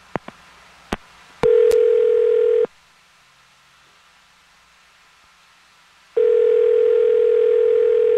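phone dialing and ringing

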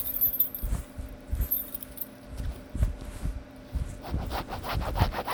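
keys jangling

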